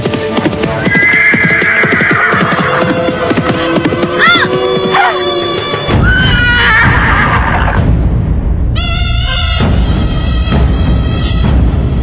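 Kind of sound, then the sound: animal, horse neighing loudly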